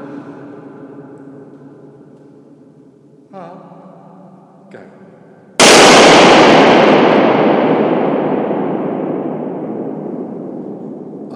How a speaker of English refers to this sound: And in a minute we're going to hear some balloons popping, so I'm just going to put you on pause. I'm going to burst the balloon now.